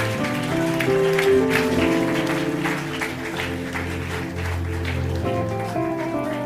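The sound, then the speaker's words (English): A crowd claps steadily together before a prayer, at a preacher's request, over sustained music with held, tonal notes; the clapping forms a continuous, fairly loud patter throughout, with no one speaking. “Can you clap your hands before we pray?”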